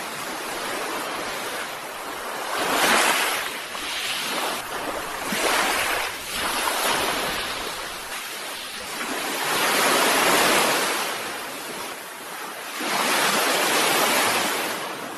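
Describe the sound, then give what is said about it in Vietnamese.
Loud ocean waves crash and surge repeatedly against rock slabs, a dense roar of breaking surf rising and falling in big swells, with a steady wash of spray between the crashes and no voices, in air full of moisture. “Tiếng sóng biển vỗ ầm ầm trong bầu không khí đầy hơi nước, khiến chúng tôi phấn tấn, tỉnh thức lên thêm.”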